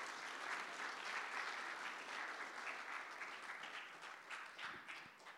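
A crowd claps steadily for a person invited up to the front, a dense wash of many hands at an even, fairly loud level that thins slightly toward the end, with no voices on top.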